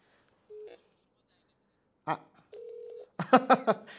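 Two short, steady telephone tones sound close and clear, a brief beep followed by a longer one, with bursts of muffled voice in between and afterward.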